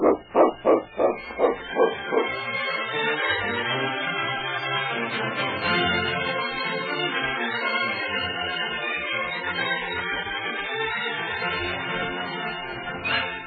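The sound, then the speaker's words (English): King, Sergeant Preston's dog in a radio drama, barks about seven times in a quick, rhythmic, loud burst, before the barking gives way to a dense, sustained tonal sound that fills the rest. “Sergeant Preston, if you'd consider selling that dog of yours...”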